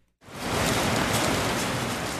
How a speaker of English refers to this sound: Not what you want to hear on an outdoor play's Thursday opening night. A rain and hailstorm swirling right over your stage. The Montana Shakespeare Company's production of Romeo and Juliet cancels the day's show.